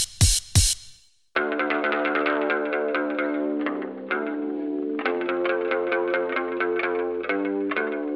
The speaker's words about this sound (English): That's me, that's the bass. It's a six-string bass guitar that I started using in …. It's actually tuned the same way as a guitar. It's an octave down from E, A, D, G, B, E.